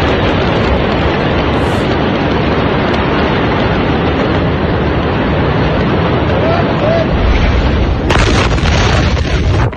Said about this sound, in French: Et là, la fin, les dernières secondes, ce que vous venez d'entendre, c'est l'espèce de souffle qui commence à ravager les quartiers suite au port.